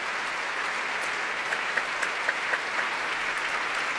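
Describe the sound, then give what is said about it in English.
Steady, dense applause from a large audience at the Royal Albert Hall and the London Symphony and BBC Symphony Chorus for London Brass, directed by Andrew Crowley, after Toru Takemitsu's brass fanfares Night Signal and Day Signal; a continuous wash of clapping with a few sharper individual claps, sustained at an even level throughout with no talking. “Each antiphonal choir of London Brass taking a separate bow, being applauded from front by the audience and from behind by the ranks of the London Symphony, the BBC Symphony Chorus.”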